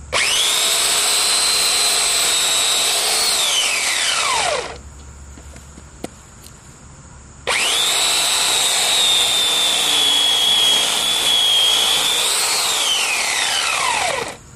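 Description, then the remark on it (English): A small electric chainsaw cutting a large branch about 6 inches in diameter whines loudly in two long bursts, pitch dipping as it bites and rising at the end, separated by a few seconds of near silence with a faint click. “I didn't even realize they made electric chainsaws.”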